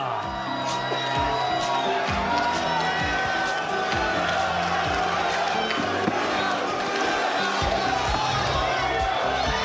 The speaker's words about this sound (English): On the count of three, guys, let's give them a little bit of support cheering, huh?